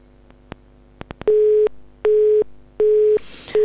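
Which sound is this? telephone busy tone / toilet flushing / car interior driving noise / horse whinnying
telephone busy tone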